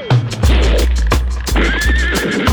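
A horse neighs loudly and shakily while hooves clip-clop in a steady rhythm, with regular sharp thumps punctuating the sound throughout.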